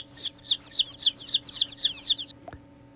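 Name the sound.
chicks peeping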